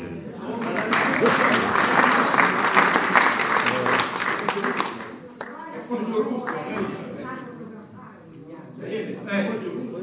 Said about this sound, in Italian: Un applauso.